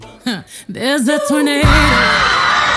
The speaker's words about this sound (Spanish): La gente gritaba a su paso.